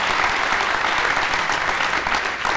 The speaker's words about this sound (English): our scholarship winners, a great round of applause for them.